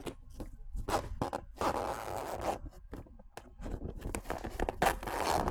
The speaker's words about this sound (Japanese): いくよ、入れるよ。うるさいよ、耳ふさいでね。よいしょよいしょ。出ます。チャック閉めます。